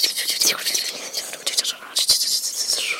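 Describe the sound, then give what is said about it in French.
A soft, airy whispering sound, the music the stars make in the universe, a strange whisper as if from very far away and barely perceptible. A breathy hiss swells and fades unevenly for a few seconds with brief rustling pulses, bright and thin with no low rumble beneath it. “Un son étrange, une sorte de chuchotis qui viendrait de très loin, un bruit de fond à peine perceptible, même pour quelqu'un comme lui.”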